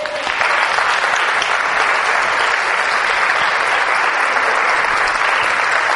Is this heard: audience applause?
yes